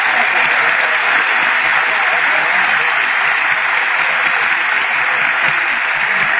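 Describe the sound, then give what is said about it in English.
A large Grand Ole Opry audience applauds steadily, a dense, loud wash of clapping that holds evenly for several seconds without fading. “If you will, let's get together and give them one great big round of applause.”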